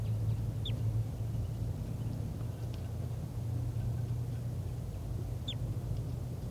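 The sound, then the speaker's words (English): Two short, high, downward-sweeping bird flight calls, several seconds apart, sound thinly over a steady low rumbling hum. No one speaks. “And there are calls coming from over there. I'm not sure which bird is giving flight calls.”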